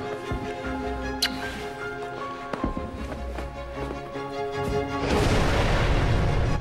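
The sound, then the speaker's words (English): Explosions boom in a city in Iraq in the BBC and HBO Films drama House of Saddam, as Saddam leaves the presidential palace: a few sharp blasts in the first half, then a louder rolling rumble near the end, all over a steady humming tonal background with no talking. “Explosions in a city as Saddam says goodbye to his sons, then leaves the presidential palace and gets into a chauffeur-driven car.”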